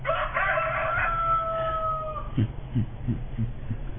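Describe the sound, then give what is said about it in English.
A rooster crows once in a long, drawn-out call lasting about two seconds, followed by a few short, soft sounds in the background. “That was after the rooster crowed four yeah.”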